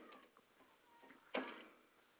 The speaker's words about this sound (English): I just closed my phone and put it back in my pocket, and it went off.